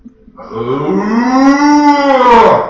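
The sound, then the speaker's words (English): A single long, loud moo from a cow on a farm in northern Wisconsin rises in pitch and swells, lasting a couple of seconds, with no talking over it. “Well, my grandpa, Klein, that was my dad, my mom's dad, he had a farm all the way up in northern Wisconsin, and he had cows, lots of cows.”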